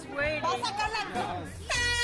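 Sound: air horn blasting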